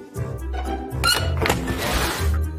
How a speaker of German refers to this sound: Und damit Tür auf.